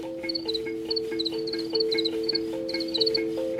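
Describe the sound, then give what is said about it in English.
Crickets chirp in quick, repeated high-pitched bursts that keep up a steady rhythm throughout, over a continuous low droning hum, with no voices present. “Even, you know, even after people sat for like half an hour and just like heard them chirping, they developed a connection to them.”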